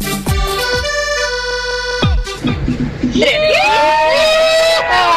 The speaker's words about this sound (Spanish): ¡Yeah! Me dio hasta sed con el grito, ¡eh!